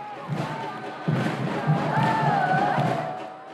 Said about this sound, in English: All right, here we are, less than 10 minutes into the game, and we're in the section where the most ardent supporters are. This is called the North End. And you can hear them thumping, beating, waving flags, all kinds of flags